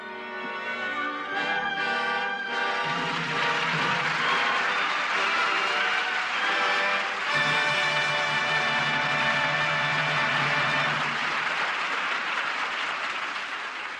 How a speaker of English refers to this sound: Your applause places the seal of approval on tonight's play and brings Maureen O'Hara and John Hodiak to the footlights for a curtain call.